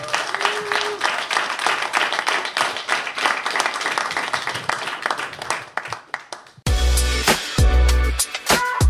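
crowd, applause

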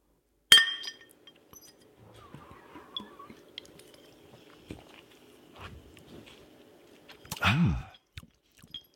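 household object, glass bottles clinking

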